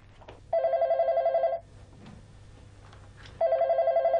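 A telephone rings twice with a loud, rapidly trilling electronic bell, each ring lasting about a second, separated by a pause with faint room noise and a low background hum.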